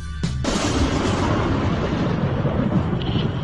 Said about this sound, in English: And I heard, as it were, the noise of thunder.